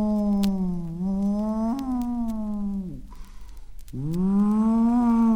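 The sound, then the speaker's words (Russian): Wolves howl in a dark spruce forest in long, drawn-out tones, one sustained call sliding slightly in pitch, a short break, then another rising howl. Loud, with no voices. “Деревья плотной стеной не проберешься, а впереди волки в голос тянут.”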